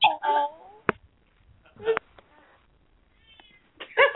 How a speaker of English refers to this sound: All I hear is a cat in the background. I have a very loud, obnoxious, needy pussy.